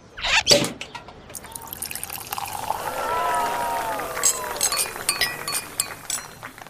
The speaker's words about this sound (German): Und gehört habt ihr nicht nur, wie der Korken knallt, sondern auch, wie eingeschenkt und angestoßen wurde.